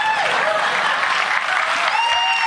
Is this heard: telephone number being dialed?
no